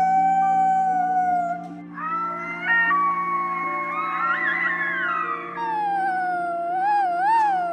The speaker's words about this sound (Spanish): A la familia de lobos le tocó, de repente, emprender un largo viaje a través del bosque que rodeaba toda la montaña del sur. Atrás quedaban los aullidos de la manada.